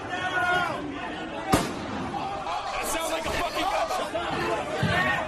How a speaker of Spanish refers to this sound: Ahí se oye, ¿verdad?, claramente ese disparo.